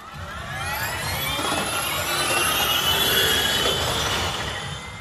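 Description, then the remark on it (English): High-pitched electric whine of a Formula E electric race car on track at Donington Park Raceway in Britain, its pitch climbing steadily as it accelerates past. It is loud and sustained for several seconds, with a rushing roar beneath and no voices. “alternative with the launch of the Formula E World Championship, E4 electric race cars, where the E cars have just taken to the track in anger for the first time.”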